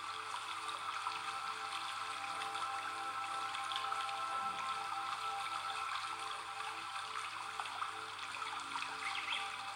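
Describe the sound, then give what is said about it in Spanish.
Steady rain falls evenly with soft patters and light trickling water, a constant hiss that neither builds nor fades, with no voices present. “Ha dejado de llover”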